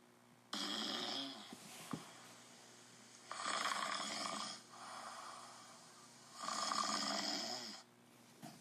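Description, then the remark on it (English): Men, U.S. Army volunteers at Lewis and Clark's fort in 1804, snoring loudly in a tent, with three long, raspy snores rising and falling in a slow, steady rhythm, separated by quieter breathing and with no talking. “The sound of snoring men filled the tent.”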